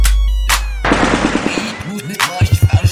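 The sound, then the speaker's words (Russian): Loud bursts of Kalashnikov automatic rifle fire crack out in rapid succession, ending in a tight, rhythmic string of shots, with musical tones sounding underneath. “По биту луплю речитативом в такт калаш.”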